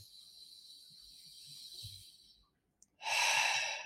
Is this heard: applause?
no